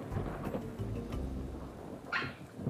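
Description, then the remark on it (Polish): Low thunder rumbles steadily under a soft rain-like hiss, and near the end a brief, sharper crack of another lightning strike breaks through before the rumble settles again. “W tym momencie trzasnął kolejny piorun.”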